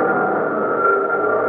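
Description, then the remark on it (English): A steady, loud mechanical drone from construction machinery on Saipan after the battle, a continuous engine-like hum with a strong midrange tone that holds unbroken throughout, with no voices. “Construction sounds.”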